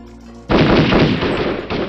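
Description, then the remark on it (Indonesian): A sudden loud burst of gunfire from Dutch troops in the village of Ganter erupts after a quiet moment. It is a dense, sustained crackle of rapid shots that continues without pause. “Terdengar suara letusan senjata yang membuat terkejut para gerilyawan karena disangka tembakan dari kawan sendiri, namun ternyata dari pasukan Belanda.”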